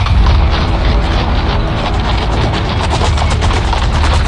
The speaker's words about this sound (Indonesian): Oh, sepertinya aku mendengar derap kaki kuda. Wah, jangan-jangan para penjahat itu mengambil jalan ini.